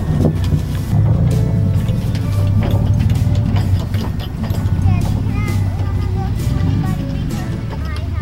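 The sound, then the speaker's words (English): Pet goats being loaded and led off to be driven away, with hooves clattering and shuffling over a steady low engine rumble, a few brief bleat-like calls and people talking. “Here you go, goaty goaty goats. Bye, girls.”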